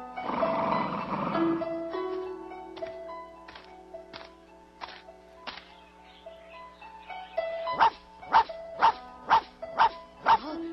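A small female dog that has just bitten someone snarls briefly, then lets out a few scattered yaps before breaking into a quick, steady run of sharp, high barks, fairly loud, with no one talking.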